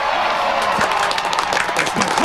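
A small group claps steadily and enthusiastically, a dense patter of hand claps filling the room at close range, with faint murmuring voices underneath.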